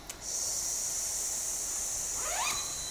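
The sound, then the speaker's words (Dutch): A voice makes a long, steady "sss" hiss in imitation of a snake, as part of a seated lung breathing exercise with the arms raised sideways and upward, sustained and fairly loud for nearly three seconds, with a faint rising whistle-like tone near the end. “De handpalmen naar buiten draaien omhoog en de klank is sss, als het sissen van een slang.”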